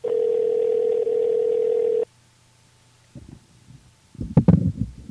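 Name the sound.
telephone call ringing tone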